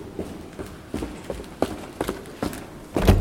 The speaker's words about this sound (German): Ein Anwalt durchquert mit schnellen Schritten die marmorne Eingangshalle und betritt den Gerichtssaal. Er vertritt Airbnb im Rechtsstreit gegen die Stadt New York.